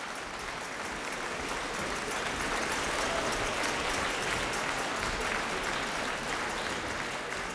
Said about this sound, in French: On entend à présent des petites percussions. Ce sont les musiciens qui tapent sur leur pupitre avec leur archet. C'est leur manière d'applaudir, de signifier qu'ils sont contents.